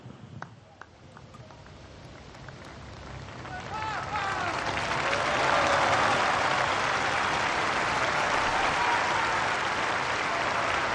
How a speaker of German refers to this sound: Mit dem dankbaren Applaus der Pilger in Rom verabschieden wir uns vom Petersplatz für heute.